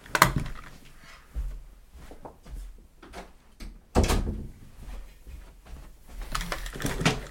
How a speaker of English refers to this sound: Hold on. They're making noise downstairs. Let me shut my door.